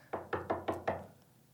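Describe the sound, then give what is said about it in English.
Five quick, evenly spaced knocks on a wooden door, moderately loud, with a brief hollow ring after the last rap and no voices. “I'll knock on her door anyway.”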